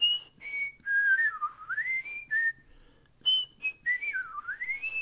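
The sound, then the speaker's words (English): A person whistles an imitation of a meadowlark call twice, each starting with short high notes then sliding down and back up in a warbling curve, clear with no talking. “And that's where I grew up, and I learned some bird calling there, okay. The meadowlark.”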